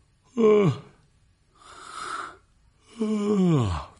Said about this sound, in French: Répondit M. Wesley en bâillant.